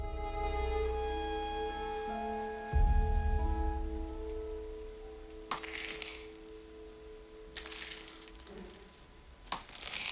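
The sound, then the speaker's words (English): A few sharp, gritty crunches of footsteps on broken glass outside a door, made by the wounded Jim Phelps, arrive irregularly over a steady low hum and faint ringing tones, preceded by a dull thud. “Hearing steps on the broken glass outside, he now comes fully awake and stares at the door.”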